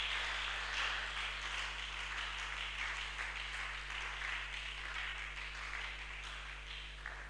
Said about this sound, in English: Can you clap for them in the name of Jesus?